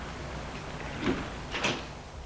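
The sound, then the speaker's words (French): The front door of a house is opened by a servant after the bell is rung, with two soft, muffled clunks about half a second apart, a low thud followed by a brighter click, over a quiet steady background hiss. “La porte s'ouvre.”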